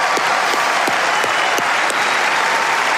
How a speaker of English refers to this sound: Applause, ça c'est sûr.